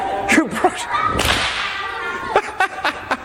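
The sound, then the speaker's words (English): A series of sharp, loud whip cracks snaps out in an uneven rhythm, with a swishing whoosh between some strikes and no talking. “Oh, if you ever do learn to use a whip, very important thing, make sure you wear eye protection.”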